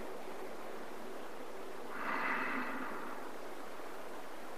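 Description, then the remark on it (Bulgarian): A single slow, soft breath, normal breathing during meditation, swells up out of a steady background hiss and fades away again. It is faint and unhurried, with no voices. “Просто наблюдавай дишането, което сега е нормално дишане. Дишване, издишване. Вдишване, издишване.”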